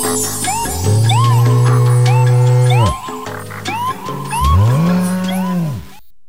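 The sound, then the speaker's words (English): Two long, loud cow moos, a cow sound effect on the Soul Patrol show on KFJC, each drawn out for a couple of seconds with a short pause between, over a busy background of chirping, croaking calls. No one speaks. “Cow special effects may be included.”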